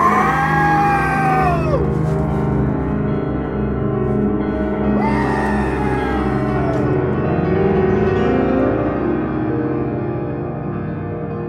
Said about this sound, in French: Il se cogna la tête contre le tronc noueux et, levant les yeux, il se mit à hurler, non comme un homme, mais comme une bête sauvage percée à mort de couteaux et d'épieux.